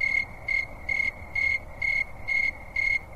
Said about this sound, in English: Crickets.